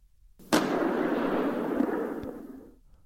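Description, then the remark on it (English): A single booming rifle shot cracks out, followed by a long rumbling roll that fades out over about two seconds, like thunder. “There was a sound of thunder.”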